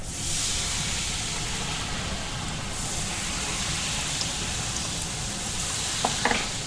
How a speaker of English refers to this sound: In front of him is a vat of hot oil. Before frying, he checks to see if the liquid is hot enough by sprinkling a few drops of batter into the oil and listens.